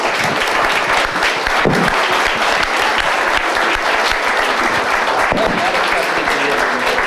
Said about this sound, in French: Il se fera un plaisir de vous le signer sous la tente et je vous demande de le remercier avec vos applaudissements.